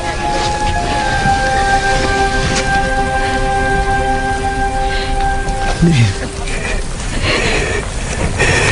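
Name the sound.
heavy rain falling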